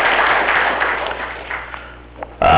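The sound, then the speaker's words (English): A crowd gives a round of applause for veterans on Memorial Day weekend, a dense, steady patter of many hands that gradually thins and fades over a couple of seconds, with no talking over it. “Wanted to also, before we get going too much further, could we just have a round of applause?”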